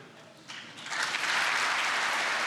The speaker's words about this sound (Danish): sådan lidt snublende klapsalver, der sådan kommer i gang på den karakteristik.